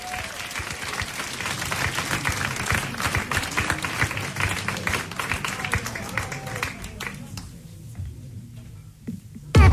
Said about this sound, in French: Oscar Lézard, sous vos applaudissements.